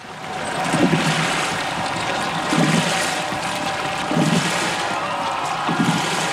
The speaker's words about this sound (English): Here's the 2003 boat race.